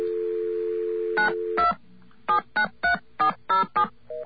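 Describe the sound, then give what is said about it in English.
A steady dial tone hums briefly, then a string of about eight short, evenly spaced touch-tone beeps as a number is keyed in, with no one talking. “Let's get a dial tone.”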